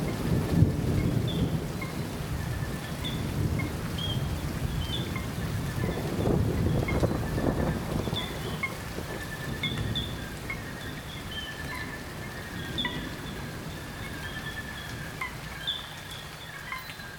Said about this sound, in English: Caratinga is part of the Atlantic Forest and is considered one of the most important sites for primate conservation. Douglas Quinn captured an afternoon storm as it rolled through the rainforest.